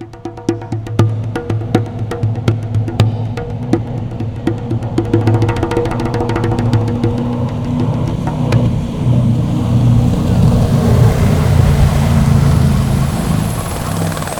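The engine of a fast red speedboat roars loud, throbbing with a choppy pulse at first before settling into a smoother, sustained drone as it speeds along.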